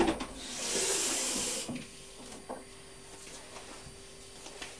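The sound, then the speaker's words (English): A dustpan brush sweeps a little bit of soil off a hard floor, starting with one long, breathy swish, then dropping to quieter scratchy strokes and small taps. No voices are heard. “Now, would you like to just get the dustpan brush and just sweep that little bit of the floor like you did before?”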